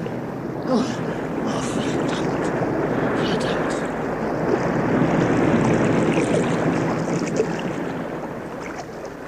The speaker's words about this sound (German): Keuchend, spuckend, schreiend kroch er so weit auf das Ufer, dass die wütenden Wellen ihn nicht mehr anfassen und zurückzerren konnten.